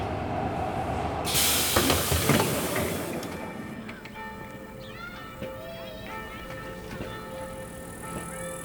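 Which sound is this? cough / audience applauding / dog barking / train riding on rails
train riding on rails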